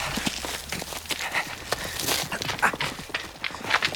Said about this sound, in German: Was ist das für ein Geräusch? Jemand steigt auf ein Pferd, würde ich sagen.